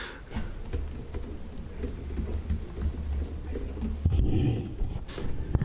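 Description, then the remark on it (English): A service dog makes low, rumbling vocal sounds, like a steady growl or grumble, continuing for several seconds with a louder swell near the end, at a legislative committee hearing. “Such a pretty dog. Beautiful dog.”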